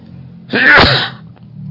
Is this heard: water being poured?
no